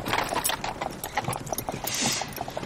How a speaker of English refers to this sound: Stan starts the horses, and the carriage departs.